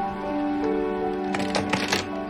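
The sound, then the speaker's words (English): A few short, crisp rustles as a woman picks up rolls of paper from a bed, clustered near the end, over steady sustained music playing underneath. “She turns around and picks up rolls of paper on the bed and walks out.”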